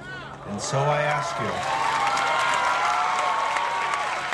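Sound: crowd cheering and applauding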